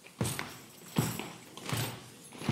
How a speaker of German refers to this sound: Wenn ich den Arm hebe, dann stampft ihr auf der Stelle. Wenn ihr nicht stehen könnt, bleibt ruhig sitzen. Unterstützt uns mit einem gleichmäßigen Stampfen. Wir probieren das mal.